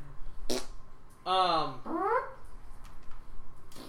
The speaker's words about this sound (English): You guys are burping on our podcast. We're full of it's amazing. I feed you beer, then I'm like, don't burp.